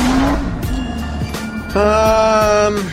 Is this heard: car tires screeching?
yes